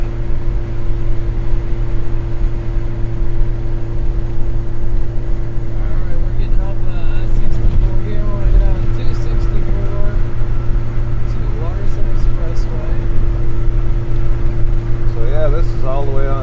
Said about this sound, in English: Yeah, we're going west on the expressway from 64.